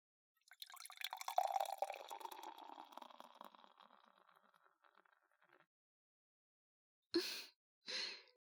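An alcoholic drink is poured into a glass by a customer for about five seconds, a steady liquid splash that starts strong and gradually tapers off, followed after a pause by two short breathy exhales.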